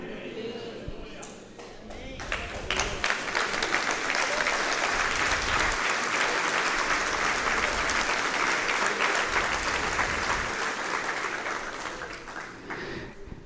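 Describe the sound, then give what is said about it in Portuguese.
A crowd breaks into sustained applause for a speech, dense clapping swelling quickly and holding steady at full volume for several seconds before beginning to taper off near the end. “Essas palmas foram para o meu discurso, mas eu creio que Deus, que habita na sua vida, merece o louvor do teu coração.”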